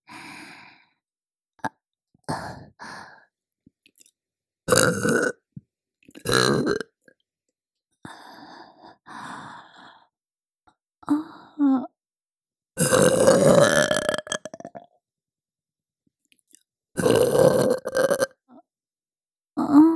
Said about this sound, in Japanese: いいわよ、もっと聞かせてあげる。ママゲップたっぷり味わってね。